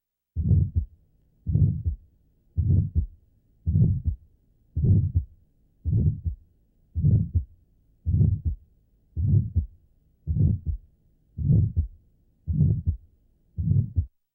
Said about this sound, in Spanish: Entonces, si se toman en consideración estos cuatro puntos, el área de intensidad máxima, la duración, el timbre y tono y su propagación, el diagnóstico de un soplo sistólico inocente no deberá revestir dificultades.